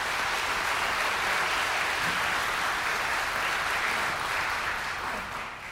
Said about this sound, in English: So today, for our BIOS feature, we do not have one specific speaker, but we have six of our older members to join us. So to make them feel comfortable, I invite you to already give them a round of applause as they share with us today.